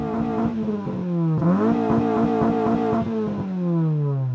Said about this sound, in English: They're very young men with small Suzuki cars re-engineered to make them sound big.